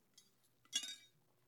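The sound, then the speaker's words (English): A soft tap, then a single bright clink of a glass as someone drinks water, with a brief high ringing tone that fades within a fraction of a second. No voices. “Ah, water is so refreshing.”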